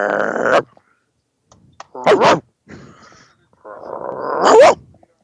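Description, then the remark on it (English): A person imitates a dog barking with several loud, gruff vocal bursts spread across a few seconds, with short gaps between them. “The dogs are barking.”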